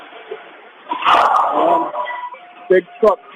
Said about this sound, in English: Big truck next to me just dumped a bunch of crap, and that's what you just heard behind me.